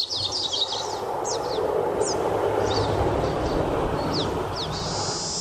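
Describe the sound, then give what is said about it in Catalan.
A North American thrush (genus Turdus) in a national park sings a string of short, high, sliding whistled notes in quick irregular bursts, heard over a loud, steady rumbling noise that fills the background throughout. “És un turdus americà?”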